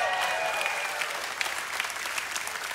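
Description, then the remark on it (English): A crowd applauds steadily for a newly released book called Dangerous Prayers, a dense wash of clapping with a few brief whistles or cheers rising near the start, sustained at moderate loudness throughout. “And that's why I wrote a book that recently released, this is your cue to cheer, it's called Dangerous Prayers.”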